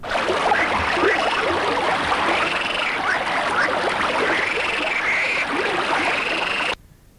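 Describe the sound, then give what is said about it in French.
A gently babbling stream burbles steadily, with faint chirping calls woven through the water sound, until it cuts off abruptly near the end. “Ils entendirent le bruit léger d'un ruisseau.”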